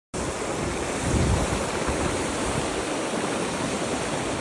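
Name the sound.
water boiling and bubbling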